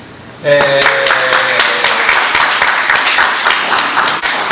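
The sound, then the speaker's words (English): A church audience bursts into loud cheering and sustained applause, dense clapping with excited voices mixed in, holding steady for several seconds after a sudden start, cheering an announcement of a 30-hour fast and gardening work. “Only in Jesus' church do people cheer after they're saying, "We're not going to eat for 30 hours!”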